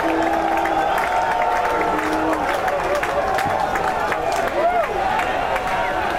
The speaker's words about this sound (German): Weil es das Schwingfest auf dem Boden vom Nordostschweizer Schwingverband ist, hat der grösste Teil vom Publikum auch den Nordostschweizer Samuel Giger unterstützt und gute Aktionen von ihm frenetisch gefeiert.